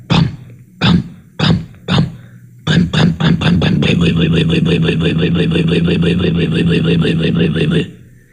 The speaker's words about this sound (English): You could hear it were cold, so I advanced the spark and gave it more choke and cranked her up in earnest. Saw, saw, saw, saw, saw, saw, saw.